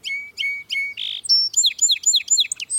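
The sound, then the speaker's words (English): A song sparrow sings a bright song: three clear introductory notes, a short buzzy burst, then a quick series of rapid descending trilled phrases. No voices accompany it. “But many other species show a distinctive streaking pattern, like this song sparrow.”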